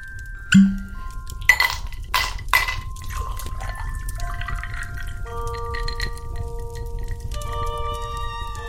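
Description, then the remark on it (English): Cool Yule Christmas spice gin from the Batch Distillery is poured into a glass: a sharp clink, a few splashing glugs, then a steady trickle whose ringing tone climbs in pitch as the glass fills. No one speaks. “But I think first things first, we need a drinky. It's time to splish the splash.”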